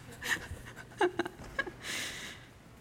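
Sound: dog panting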